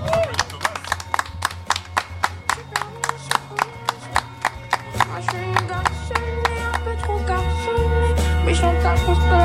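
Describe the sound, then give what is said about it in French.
An audience claps in a steady, even rhythm for all the participants at the end of a blind test on Radio Rumeur du Monde, sharp beats falling in time over a low, sustained musical backing that grows fuller and louder toward the end. “Et on peut encore applaudir tous les participants.”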